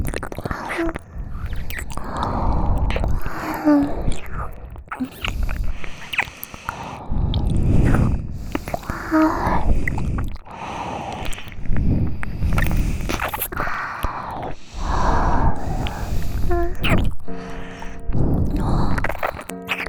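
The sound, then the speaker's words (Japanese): Wet, slurpy ear licking with saliva, a steady run of sticky smacks and squishy mouth sounds that rise and fall in irregular bursts, fairly loud and with no talking. “勇者様の耳、よだれでデロデロですわよ。”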